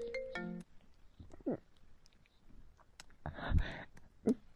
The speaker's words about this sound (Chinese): 你爸爸来电话了，不要接，求你了，别接。